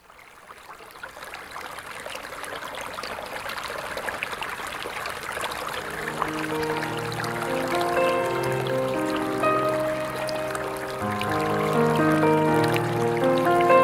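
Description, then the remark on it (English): Water trickles and splashes steadily at a church altar, a continuous bubbling flow; about halfway through, soft sustained musical tones rise underneath and grow gradually louder. No one speaks. “It was water that the Israelites came through into freedom.”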